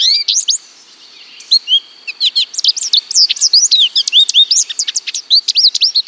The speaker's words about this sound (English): Come spring, with its fancy breeding plumage, it adds this lovely song.